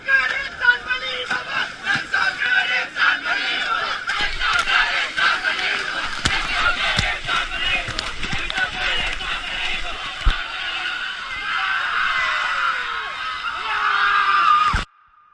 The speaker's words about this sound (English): until finally on day 21 they reach the river's mouth on the Indian Ocean, and everyone sprints over the sand and into the sea while laughing and crying and congratulating each other, like in this audio from 2016.